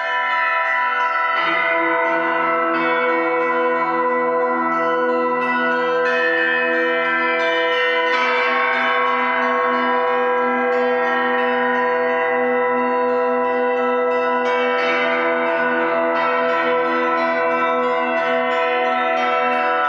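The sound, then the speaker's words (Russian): Church bells ring together in a rich, layered peal, their overlapping tones sustaining and swelling with fresh strikes every few seconds, loud with no voices. “Храни, Господь, и спаси, колокольный звон на Руси и святую веру в груди.”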